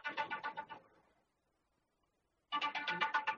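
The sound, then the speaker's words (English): A phone ringtone trills in two bursts of rapid pulsing tones, the first fading out after about a second, then a pause before it resumes loud. “Is somebody's phone ringing in there?”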